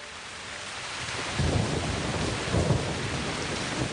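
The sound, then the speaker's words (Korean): Dense, steady rain pours down in a constant hiss while two deep rumbles of thunder roll through, one after the other, with no voices present. “억수같이 내리는 비를 아랑곳 타지 않고 현정화 선수가 나섰습니다.”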